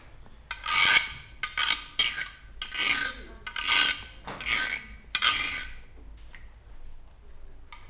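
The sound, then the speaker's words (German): Rough, raspy snoring of a sleeping bear comes in about seven quick rhythmic bursts over several seconds, steady, then trails off into quieter breathy rustling. No one speaks. “Der Bär schläft.”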